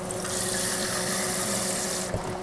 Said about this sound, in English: But I'm gonna leave these whole, and I'm gonna add my water, however much that is gonna be.